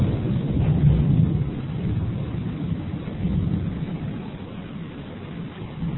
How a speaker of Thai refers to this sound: มีฟ้าร้องนะไม่ใช่อย่างอื่นนะ